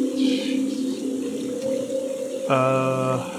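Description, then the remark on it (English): Steady running river water rushes on throughout, mixed with a low constant hum, and a brief bright tonal blare cuts in near the end. “There's running water here.”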